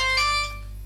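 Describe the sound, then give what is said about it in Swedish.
A phone ringtone chimes with bright, steady electronic tones, loud, then quickly fades out after about half a second, leaving a low hum underneath. “Men jävlar, nu ringer det.”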